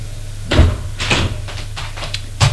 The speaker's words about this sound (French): Ouvre le réfrigérateur. Il est vide.